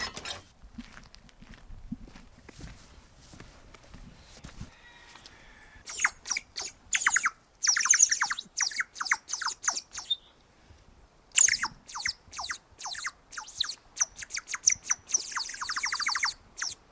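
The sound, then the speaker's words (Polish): Bright, bubbly warbling whistles from a handmade ceramic bird whistle filled with water come in rapid trills and bursts, fairly loud, with short pauses between runs and no talking. “Oprócz tego, że robimy naczynia, to robimy ptaszki, gwizdki, które jak się naleje wody, to potrafią tak fajnie grać.”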